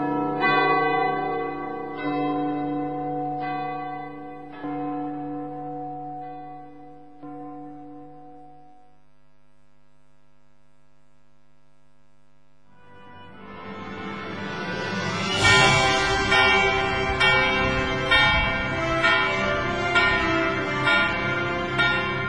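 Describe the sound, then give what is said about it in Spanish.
A church bell on Radio Cristiandad marks the start of a new hour, tolling a few slow, resonant strikes that ring out and fade to silence, then a fuller, busier peal of bells swells up loud, with no voices. “La campana nos marca el comienzo de una nueva hora.”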